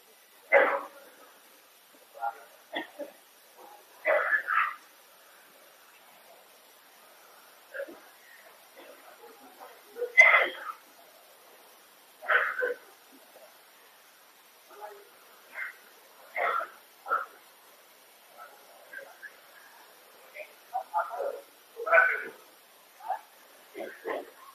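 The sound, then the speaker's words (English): A man, a Maharaj with some infection, coughs repeatedly in short, harsh bursts spread irregularly over about twenty-five seconds, with brief quiet gaps between fits, at moderate loudness. “couldn't continue because he's coughing.”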